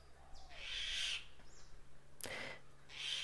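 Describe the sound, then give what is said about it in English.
A mynah bird on the Big Island of Hawaii calls in a series of harsh, high-pitched screeches, one sharp raspy squawk breaking in partway through, with no one speaking. “Yes, Mina Bird. Thank you.”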